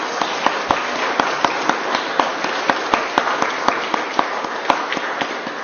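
A crowd applauds steadily for several seconds, a dense wash of many hands clapping with sharper individual claps popping out at an irregular rhythm. No one speaks.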